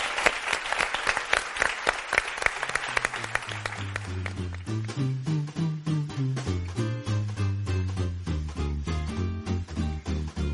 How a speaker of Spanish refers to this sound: Muchísimas gracias. Un aplauso.